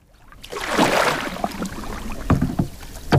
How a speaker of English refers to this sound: We're on a river flowing through the countryside of Assam in northeast India. A fisherman casts his net from the bank into this tributary of the mighty Brahmaputra.